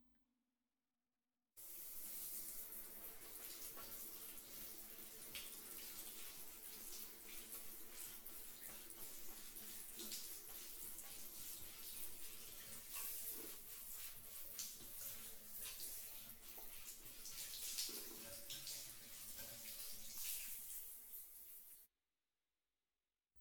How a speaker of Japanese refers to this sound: 泡が行き渡りましたらシャワーで流しますので、先ほど申しました通り目に入らないよう閉じたままでお願いしますね。はい、それでは泡を流していきます。